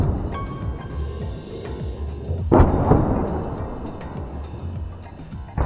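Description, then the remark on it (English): Explosions in Kobane: a deep, booming blast bursts out partway through and rolls off over a steady low rumble, with more muffled thuds and no one speaking. “explosions in Kobane”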